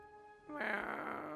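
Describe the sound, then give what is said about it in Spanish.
A single drawn-out cat yowl from a cat on top of a falla, starting as a tonal whine and swelling into a harsh, rasping cry, unaccompanied, lasting just over a second. “Y el gato dijo...”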